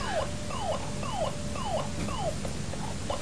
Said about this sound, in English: Funny squeak. It is a funny squeak, I think the batteries have gone.